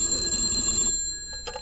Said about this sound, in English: I was sitting at home the other evening, filing Hope's name off some golf trophies. I want them from him. And the phone rang.